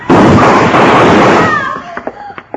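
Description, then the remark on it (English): A loud gunshot blast roars out and fades over about a second, followed by a few sharp, smaller pops and clatters with faint ringing tones. “Shoot through the door.”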